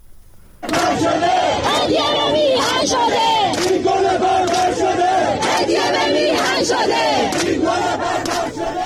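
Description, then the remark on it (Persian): A large crowd chants protest slogans in loud, rhythmic unison, beginning abruptly and continuing without pause, many voices shouting together in repeated, forceful bursts, at the 40th-day memorial for Hamidreza Rouhi, killed in recent protests, at Behesht-e Zahra cemetery in Tehran on Thursday, as government forces attacked those present. “ویدیوهای منتشر شده در شبکه‌های اجتماعی نشان می‌دهد مراسم 40 حمیدرضا روحی از کشته شدگان اعتراضات اخیر روز پنجشنبه در بهشت زهرای تهران با سر دادن شعارهای اعتراضی حاضران و حمله نیروهای حکومتی به آنها برگزار شد.”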